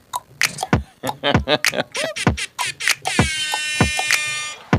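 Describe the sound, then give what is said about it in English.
A single loud, steady air horn blast, lasting over a second with a harsh, buzzing, harmonic-rich tone, follows a jumble of short clattering sounds and brief voices. “We have a real air horn in there.”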